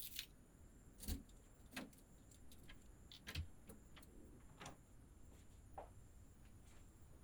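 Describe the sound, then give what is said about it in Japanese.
Quiet metallic clicks and clacks of a key unlocking the front door of a fairly new detached house, followed by the door latch and the door opening, with a faint steady outdoor hum behind and no voices. “じゃあ鍵開けるから、ただいまって言って入りましょう。”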